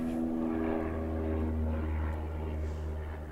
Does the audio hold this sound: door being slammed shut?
no